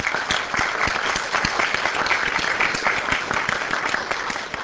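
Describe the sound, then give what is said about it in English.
A crowd applauds the event organizers steadily, many hands clapping in a dense, continuous patter that stays at an even, moderate loudness throughout, with no voices standing out. “So let's start with a round of applause for them for pulling this off.”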